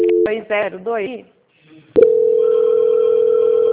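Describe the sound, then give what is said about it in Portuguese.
A short stretch of talking gives way to a click, then a loud, steady single-pitched telephone tone that holds unbroken to the end, as the call is transferred to quality control. “Eu peço que o senhor aguarde um minutinho na linha. O senhor não desliga o telefone, tá? Se eu vou transferir para o controle de qualidade”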